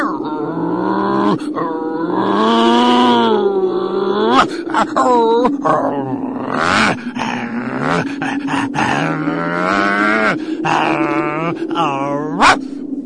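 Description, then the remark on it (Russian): The dog Mumu barks and growls by a fence, loud and nearly continuous, with drawn-out, moaning growls broken by sharper bark bursts throughout. “Между тем несчастная Муму продолжала лаять, а Герасим напрасно старался отозвать ее от забора.”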